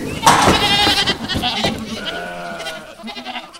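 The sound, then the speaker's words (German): A stubborn goat bleats loudly in a goat stall in a wavering, drawn-out cry as a young boy tries to catch it, then a second softer bleat trails off, with faint rustling and stall noises around it. “verzweifelt versuchte, die störrische Ziege zu fangen.”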